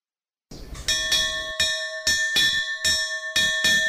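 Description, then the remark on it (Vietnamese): An alarm gong is struck repeatedly to raise the alarm and mobilize local forces, in a steady rhythm of roughly twice a second. Each loud, bright metallic clang rings on between blows, with no voices. “Việc đầu tiên đánh kẻng báo động để huy động cái lực lượng tại chỗ, ví dụ ngõ này”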